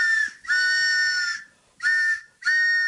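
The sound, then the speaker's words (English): A train whistle sounds in four loud, steady, high blasts: a short one, a long held one, then two more short ones, with brief gaps of quiet between. “Here comes the Back of the Book BAI pitching train chugging its way into your radio.”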